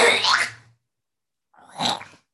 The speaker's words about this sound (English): Yes, it's recording now. I just have to cough.